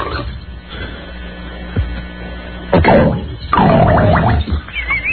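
Muffled underwater bubbling and gurgling bursts of a bathtub fart sound effect recorded with microphones underwater, a couple of short low blurts followed by a longer, louder stretch of bubbly churning, with no voices.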